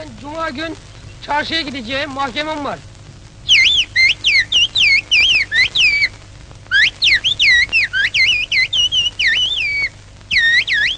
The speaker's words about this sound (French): On a donc étudié d'une façon systématique cette nouvelle langue. Voici une phrase parlée, puis sifflée plusieurs fois.